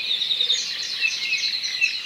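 A dense chorus of high, twittering birdsong from native honeycreepers fills a forest at higher elevation on Maui, Hawaii, above 4,000 to 5,000 feet, many overlapping chirps and trills at a steady moderate level with no talking.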